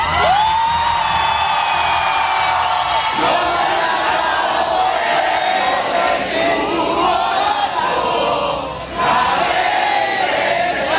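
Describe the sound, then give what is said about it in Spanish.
A large crowd of supporters cheers and shouts continuously with cries of "valiente" and "libertad" as Venezuelan opposition leader María Corina Machado greets them from the balcony of the Gran Hotel in Oslo at 2:25 a.m.; overlapping voices, whoops and chanted cries form a loud, dense roar throughout. “Esto ha sucedido a las 2 y 25 de esta madrugada, entre gritos de valiente y libertad, y rodeada de su familia.”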